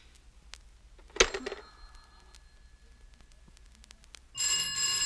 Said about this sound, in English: Hello, hello, operator? They keep ringing me and tying up my line. Everyone is on the same line.